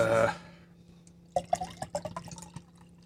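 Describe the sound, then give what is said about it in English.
Beer being poured into a glass: a brief rushing splash, a short pause, then a run of uneven bubbly glugs and trickling drips that fade out, with no talking. “The rest of the beer is in the glass.”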